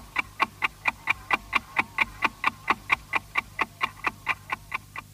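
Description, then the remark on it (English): A clock ticks in a steady, brisk rhythm, about four crisp ticks per second, serving as the Austrian radio interval signal of RAVAG, used from 1924 to 1938, over a faint low hum, with no voices. “The good old ticking clock, which was used between 1924, when public broadcasting started in Austria by RAVAG, short for the Radio Traffic Company, up until 1938”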